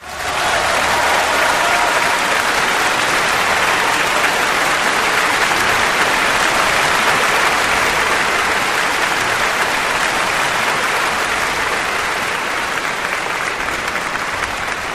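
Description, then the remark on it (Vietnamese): A large crowd claps loudly and steadily, a dense wash of applause with cheering mixed in that holds at full strength for the whole stretch, tapering only slightly at the end, greeting half a company of soldiers who have just finished a brief military drill display. “Lập tức, tiếng vỗ tay và hoan hô nổi lên vang dội.”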